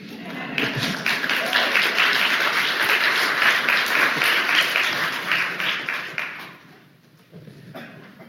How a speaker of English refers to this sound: Do I hear applause?